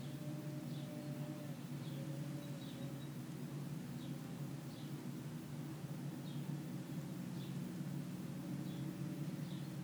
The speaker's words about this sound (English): The sound of the birds.